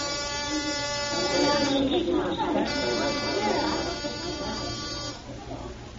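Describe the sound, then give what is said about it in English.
A theater buzzer announcing the second act drones in one steady, harsh tone for about five seconds, with a murmur of voices underneath, before it cuts off. “And as the buzzer announces the second act,”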